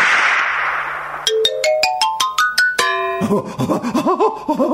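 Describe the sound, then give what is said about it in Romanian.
A magic whip effect: a soft whooshing swish, then a quick run of bright rising chime notes, a ringing chord, and a trail of warbling, wobbly tones. No one speaks. “Iar noi, biciușcă fermecată, să mergem la împărat de îndată.”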